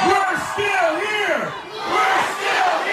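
Tom Brady, the New England quarterback, shouts in long, rising and falling bursts over a loud, roaring crowd that cheers and yells continuously throughout as he rallies them before flying to Atlanta for the Super Bowl; the whole scene intense.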